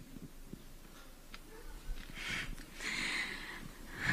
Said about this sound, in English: So the question's asked, and you hear the awkward breathing into the microphone where she can't really bring herself to answer the question.